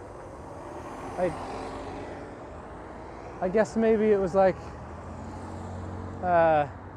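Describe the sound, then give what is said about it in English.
A steady, low engine rumble fills the inside of a bus going very slowly around a corner, continuous and moderately loud, while a person speaks in short bursts over it. “Why is this bus going so slow?”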